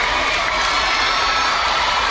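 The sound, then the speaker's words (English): A dense, continuous roar of a large crowd screaming and cheering, loud and sustained throughout without a break, with no distinct individual voices standing out. “She sounds like the crowd. Who knew she could sound like 2,000 people plus at the same time?”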